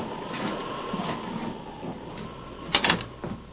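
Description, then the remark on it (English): An unlocked door is opened with a couple of short rattling clunks near the end, against a steady rumbling, windy storm noise. “The door's unlocked. Come on.”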